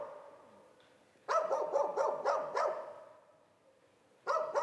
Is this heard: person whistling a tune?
no